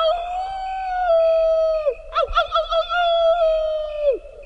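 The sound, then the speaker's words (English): A mouse's high-pitched howl in the Idaho desert: two long, sustained whistling tones, each ending in a downward slide, separated by a brief warbling break. It is clear, with no talking. “High-pitched or not, the meaning of the howl seems pretty clear.”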